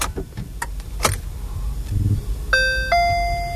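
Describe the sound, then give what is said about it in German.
Two-note electronic chime of an electric car starting as the key is turned: a higher tone dropping to a lower sustained one, after a few soft clicks and rustles. “Naja, dann habe ich mich reingesetzt und die erste Überraschung, die man sich wahrscheinlich hätte denken können, fängt dann schon beim Umdrehen des Schlüssels an.”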